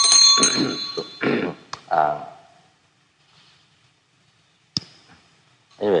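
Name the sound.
hand bell being rung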